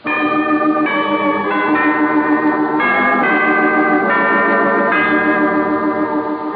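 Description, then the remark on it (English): Loud, steady ringing of church bells, with tones shifting about every second in a continuous peal that fills the whole stretch without pause and with no voices. “And come Thursday morning, the bells will be ringing in all the churches,”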